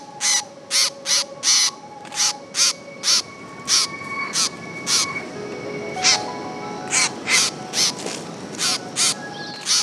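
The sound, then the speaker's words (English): An angry young blackbird caught in a mist net on Lord Howe Island gives a rapid, steady series of harsh, scolding calls, loud, about two per second throughout, with faint whistling birdsong in the background. “an angry young blackbird caught in a mist net with you on Lord Howe Island.”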